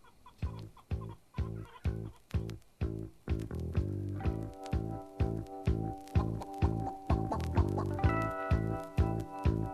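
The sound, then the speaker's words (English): Chickens cluck in a steady, loud rhythm, about two clucks per second, blended with music whose sustained tones fill in from the middle onward. No one speaks. “Yeah, I think we're going to hear more music and more chickens.”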